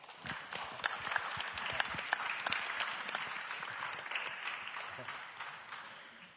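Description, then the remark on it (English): An audience applauds speakers after their testimonies, several seconds of a dense wash of many overlapping claps with a few sharper individual hits standing out, holding at an even, moderate loudness throughout. “All right, can you guys just give one more quick round of applause for these guys and their testimonies?”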